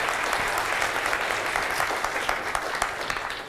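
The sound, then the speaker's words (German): Steady audience applause for Holger Koch, a dense patter of many hands clapping at an even, sustained loudness throughout, with no voices standing out. “Ich denke mal jetzt noch eine letzte Frage, aber davor ja noch mal einen schönen kräftigen Applaus für Holger Koch.”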